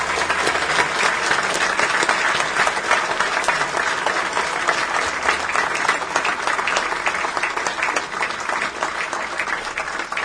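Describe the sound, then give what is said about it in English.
An audience claps steadily for people fighting a disease, a dense wash of many hands that stays loud and even from start to finish with no voices standing out. “Guys, I want us to give a round of applause for these warriors that are fighting this disease.”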